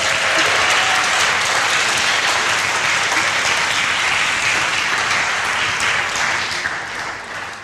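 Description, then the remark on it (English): An audience applauds steadily to welcome a family at a church service, a dense wash of clapping that holds strong for several seconds before beginning to taper off toward the end. “Be nice to round of applause to welcome the family.”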